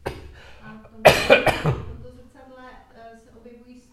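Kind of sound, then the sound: human body sound, coughing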